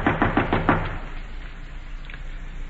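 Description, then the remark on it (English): Four firm, evenly spaced knocks on a door, each a dull thud, followed by a brief fading resonance and then quiet background with no talking. “Open the door, Captain.”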